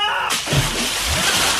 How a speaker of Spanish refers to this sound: Ay, te dejé toda salpicada la carita, niña, por Dios.